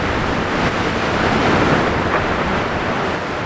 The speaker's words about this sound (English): I'm in the front of the boat, bearing the brunt of crashing waves